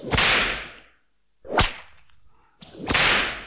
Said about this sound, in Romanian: A văzut și știa că o să fie biciuit.